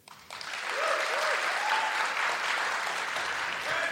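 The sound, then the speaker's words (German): An audience bursts into sustained applause to vote for milk on an applause meter, dense steady clapping for several seconds, with a few faint voices and cheers woven underneath. “Also einmal, wir machen das mit Applausometer. Einmal kurz Milch.”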